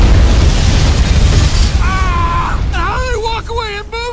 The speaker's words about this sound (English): When it explodes behind them, there's no way! The movie industry is completely irresponsible for the way they portray explosions! So that was the trailer for The Other Guys.